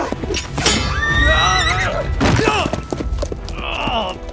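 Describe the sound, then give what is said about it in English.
A horse neighs loudly, a long wavering whinny with a second shorter call, amid thumps and background commotion. “Bless you, horse!”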